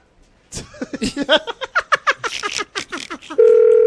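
A quick run of short, choppy phone beeps, like keys being pressed, as a phone number is dialed to call someone, gives way to a steady, unbroken telephone tone that holds loud at the end.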